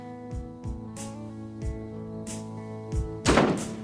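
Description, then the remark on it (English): A bedroom door slams shut with a loud, sharp bang near the end, after a few softer low thumps, all over a steady, sustained musical drone with no voices. “He gets up and slams the door shut.”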